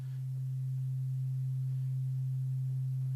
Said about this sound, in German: Und wir können aber an dieser Sinuswelle ein paar Sachen verändern. Wir können zum einen die Amplitude verändern. Das ist, wie hoch diese Welle hier ausschlägt.